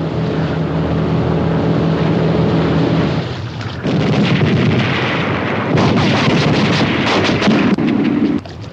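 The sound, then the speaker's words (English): Rapid bursts of gunfire crackle at frogmen in the water, through a loud, steady roar like an engine and churning water, the shots growing denser and sharper in the second half. No one speaks. “As they come under fire in the water”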